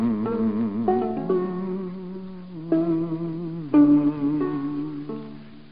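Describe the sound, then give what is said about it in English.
A loud, steady buzzing drone like a fly sound effect, rich and reedy, wavering slightly and stepping up and down in pitch several times over a few seconds, with no talking. “If you want a fast, sure way to kill flies and mosquitoes, try Fly Dead.”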